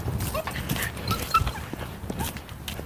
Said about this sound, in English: Oh, here he comes. The dog walker with the small dog. The daughter's dog, apparently.